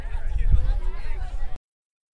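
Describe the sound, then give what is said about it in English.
The crowd at the 2018 Denver Pride parade in Denver fills the air with dense, overlapping chatter and murmuring voices, steady and fairly loud, before cutting off abruptly into silence after about a second and a half. “We're here at Denver Pride, the Pride Parade here in Denver 2018.”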